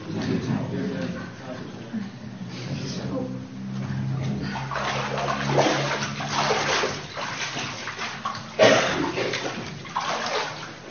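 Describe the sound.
Water sloshes and splashes close by as someone climbs out of a pool, with a sharper splash near the end and faint voices in the background.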